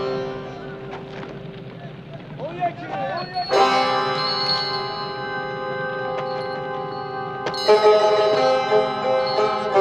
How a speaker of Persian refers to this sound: حسام بیک قبل از سوار شدن زنگوله ای را از افسار اسبش پاره می کند و در مقابل نسیم بیک روی میز می گذارد.